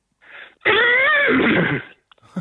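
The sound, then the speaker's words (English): A person's voice imitates a horse's neigh, a loud wavering whinny lasting over a second, preceded by a short breathy lead-in and trailing off into faint sounds. “Horse.”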